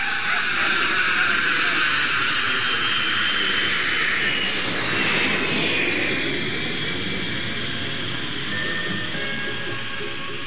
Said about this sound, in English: Confound it, can't you fly this jet any faster? The bleeding birds are passing us by. We're moving twice the speed of sound,